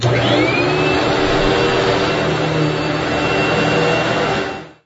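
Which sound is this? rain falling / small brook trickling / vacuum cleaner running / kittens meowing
vacuum cleaner running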